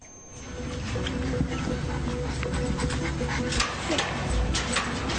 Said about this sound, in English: My little favorite little puppy.